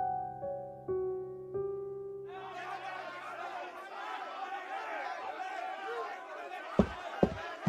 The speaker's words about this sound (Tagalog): ano yung mga sigawan sa labas?